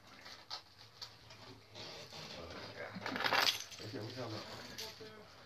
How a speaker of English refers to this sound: I'm looking for his car keys. They're right here.